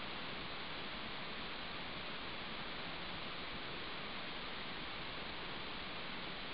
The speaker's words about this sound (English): Listen to the sounds of the sea.